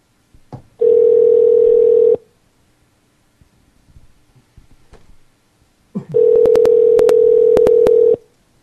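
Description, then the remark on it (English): A steady telephone dial tone sounds twice, then a rapid series of keypad beeps is pressed over the second tone, with quiet handling noise in between. “I'm going to now call Brad.”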